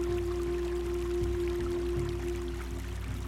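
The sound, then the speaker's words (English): Continuous flowing river water rushes steadily at moderate volume, layered over a low, sustained droning hum, with no voices. “And as the waters begin to fade, return to your breath.”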